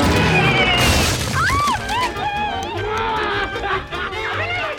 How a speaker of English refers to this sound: They riddle the screen with bullets, but the bullets bounce back, and the plane crashes.